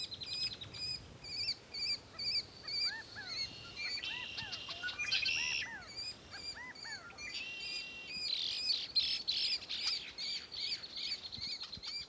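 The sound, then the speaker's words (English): A steady chorus of birds calling near a pond, including red-winged blackbirds, California quail, mallard ducks, ravens, kestrels and geese, with overlapping chirps, whistles and buzzy trills from several birds, continuous, with no voices. “Near the pond, there's a constant thrum of calls from red-winged blackbirds, California quail, mallard ducks, ravens, kestrels, geese, and more.”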